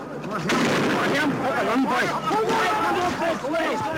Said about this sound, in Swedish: Kaoset som utbryter när människor förstår att soldaterna inte skjuter gummikulor utan skarpa skott.